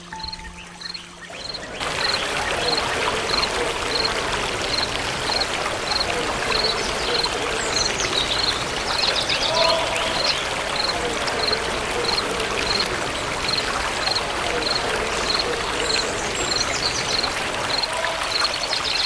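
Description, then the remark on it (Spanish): A steady rush of the Ustuta River's flowing water at Paso Luna, Ixhuatán, fills the scene from just after the start, broad and continuous, with a faint regular chirping pulse, like an insect, ticking above it. “Un domingo de paseo familiar por el Paso Luna, en el mismísimo río Ustuta de nuestro pueblo Ixhuateco.”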